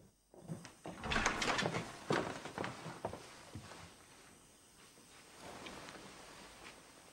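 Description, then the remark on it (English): A door swings open with a rattling clatter as a man storms in through it into a study, shown in by a servant, followed by quick, heavy footsteps before settling into quieter movement. Fairly loud, with no talking. “storms through the door, shown in by a servant.”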